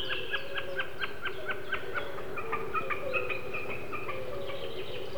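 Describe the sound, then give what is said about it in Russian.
A snipe's diving display high in a blue sky: a steady, rapidly pulsed, bleating hum from its vibrating tail feathers as it dives. The pulses repeat evenly for several seconds over a low background rumble. “Вот он пикирует, слышно, как вибрирует перья хвоста.”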